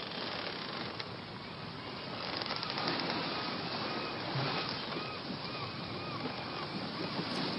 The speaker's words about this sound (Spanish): Este buque sigue navegando, acercándose a la isla Tortuga, tripulado por piratas que no reconocen autoridad en el mar ni en la tierra.